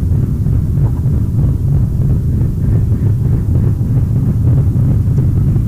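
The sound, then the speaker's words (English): A freight train rolls past with a steady, heavy low rumble that holds constant throughout, a dense mechanical roar with no voices over it. “got a big freight train going along behind us here.”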